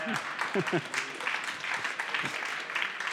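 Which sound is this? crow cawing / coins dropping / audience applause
audience applause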